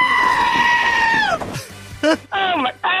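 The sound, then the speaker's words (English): A goat bleats loudly in a long, wavering cry that bends downward, followed by several shorter, shaky bleats in quick succession, clear. “It's actually, it is a goat.”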